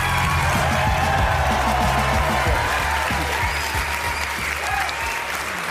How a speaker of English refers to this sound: Adam Schiff is over here. Deafening applause for Congressman Schiff.